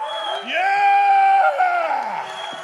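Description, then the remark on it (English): A small audience at a stand-up comedy competition cheers to vote for a contestant, with several voices whooping and yelling in long, loud sustained shouts. Any clapping is faint beneath the cheering. “If you think Jake is your winner of the first ever stand-up comedy competition, clap your hands.”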